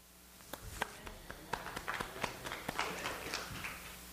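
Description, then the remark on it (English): Sparse, scattered clapping from a church audience, just a dozen or so uneven claps over a few seconds, fairly quiet and half-hearted with no voices over it. “Boy, that was a weak clap.”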